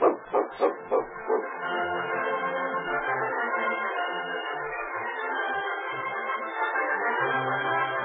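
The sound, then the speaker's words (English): A dog barks five times in quick succession, loud, then breaks into a steady, rumbling growl that continues without pause to the end, in a radio drama. “You won't get far with that dog watching you.”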